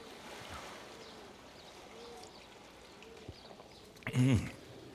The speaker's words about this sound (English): She suddenly decided we should rent a boat and be rowed out into the Ganges. When we reached the middle of the river, we just sat there, silent, listening.